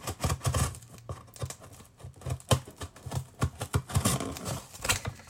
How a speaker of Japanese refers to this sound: ではちょっと開けていきますね。段ボールなんで、ちょっとガムテープを。